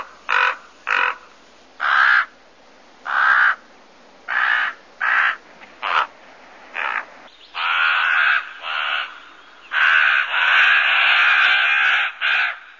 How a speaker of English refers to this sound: They're a very iconic bird, very, very smart, very intelligent, make many, many different kinds of sounds. So let's hear the raven sound.